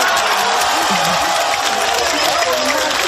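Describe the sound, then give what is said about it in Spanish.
A football team, Barbastro, cheers loudly in its locker room after the cup round-of-32 draw pairs it with FC Barcelona: a dense, continuous wall of overlapping shouts and clapping that stays intense for the whole moment. “Y este es el vestuario del Barbastro. Al Fútbol Club Barcelona.”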